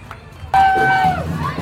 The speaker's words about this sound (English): There is everyone's cheering. There is every aspect of the rainbow flag here to celebrate on the island.